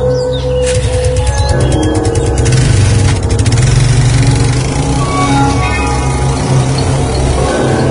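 A motorcycle engine runs steadily for the whole stretch as the rider sets off for a sibling's house, a loud, continuous low rumble with a brief clatter of mechanical clicks early on and no voices.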